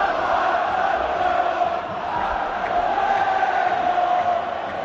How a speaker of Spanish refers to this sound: Y vuelven a proliferar los gritos en la grada que cantan ahora. Estamos hasta ahí.